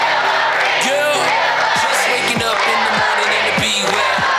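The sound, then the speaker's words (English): A crowd at a Hillary Clinton campaign rally cheers and shouts steadily, pumped up by intros and upbeat music over the PA system, a dense roar of many voices with scattered whoops and yells rising above it, loud and continuous throughout. “The intros and upbeat music fed through the PA system pumped up the crowd.”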